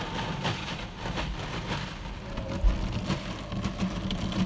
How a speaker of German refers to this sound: Sondern in einer hessischen Waschanlage. Mit meinem Auto.